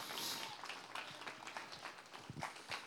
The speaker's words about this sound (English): Give Jesus a hand clap of praise this morning.